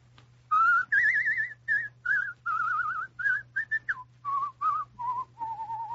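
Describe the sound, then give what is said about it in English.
A person whistles a folk melody alone, a series of clear, warbling phrases with heavy vibrato that step gradually downward in pitch, over a faint steady low hum. “I don't think I'll even give you the line. I'll whistle it for you instead.”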